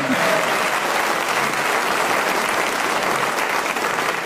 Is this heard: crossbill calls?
no